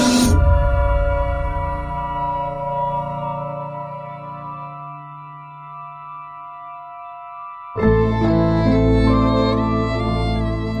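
Film theme music: a loud opening chord fades into long, sustained tones that slowly thin out, then a fresh, rich chord swells back in near the end. No voices.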